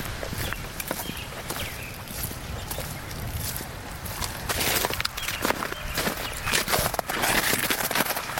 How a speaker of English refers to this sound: Some birds beginning, even with the snow, we can hear the crunching snow and the beginning of the bird songs of the spring.